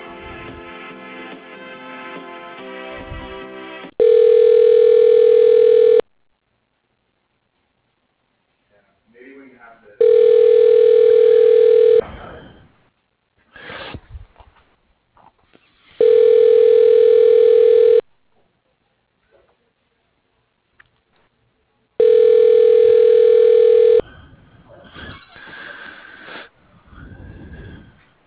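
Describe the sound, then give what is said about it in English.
A telephone rings four times while a call is being transferred to a general delivery mailbox. Each ring is a steady two-second electronic buzz repeating at even intervals with quiet gaps between, heard over a phone line with faint rustling between rings. “Please hold while your call is being transferred to General Delivery Mailbox.”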